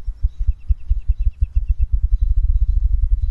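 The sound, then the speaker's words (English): A low, steady mechanical hum from a visitor center, with a rapid pulsing throb, runs throughout, while a few faint, high, thin chirps sound briefly above it. No one speaks. “That low human hum from the visitor center probably affects the spruce grouse more than any other bird we've heard.”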